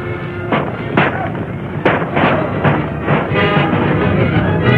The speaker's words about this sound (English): Guns roared whenever a townsman showed himself.